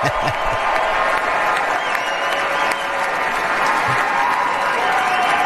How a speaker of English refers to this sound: The ultimate showman. He loves doing this on stage with people applauding him with a guy saying, sir, this is the next thing you need to sign.